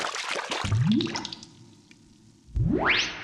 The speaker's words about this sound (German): ist in der Badewanne getaucht.